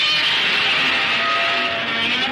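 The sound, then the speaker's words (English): A person imitates Godzilla's roar with a loud, sustained, screeching vocal wail. It holds steady for about two seconds with a harsh, high, strained tone and no talking. “Insert Godzilla noise here.”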